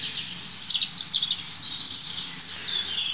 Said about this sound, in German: Und dazu ist das einfach ein super spannender Vogel, das Rotkehlchen.